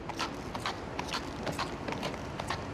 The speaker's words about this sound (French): Normalement, on dit que c'est ici que résonne le cœur de New York. Aujourd'hui, la seule chose qui résonne, c'est le son des sabots de la police montée.